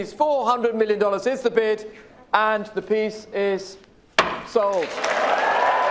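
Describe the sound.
A man speaks for several seconds, then a loud burst of gasps and applause breaks out and carries on steadily to the end, his voice briefly heard over the clapping, as the price soars at a Christie's evening auction in New York for Leonardo da Vinci's painting Salvator Mundi, bid mainly by telephone.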